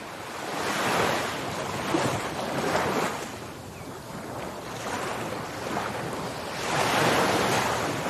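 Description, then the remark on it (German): Ocean waves break and wash ashore on a tropical beach in broad, rolling surges, swelling and receding every few seconds with a steady hiss of surf and a touch of wind, no voices present. “Eine Welle des Glücks, die durch deinen Körper strömt, weil du gerade diesen wunderbaren Moment am Meer erleben darfst.”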